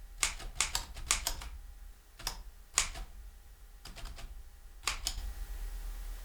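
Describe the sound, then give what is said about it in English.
The keys of a small old mechanical typewriter from 1929, nicknamed Clifford, clack in quick bursts with short pauses, sharp percussive strikes occasionally trailing into a faint metallic ring. No one speaks. “Also, one of the coolest things about typewriters, and I'll do it here on Clifford, I started to, but there's no one.”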